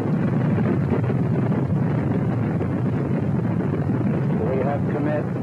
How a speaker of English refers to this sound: We have liftoff. Liftoff at 7:51 a.m. Eastern Standard Time. Houston, you are go for staging, over.